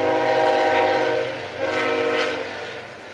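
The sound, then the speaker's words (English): A train horn blares with sustained harmonic tones over the steady rumble of a passing train, loud, swelling twice before easing off as it moves by; the second train heard during a football game involving a school. “second train of the game.”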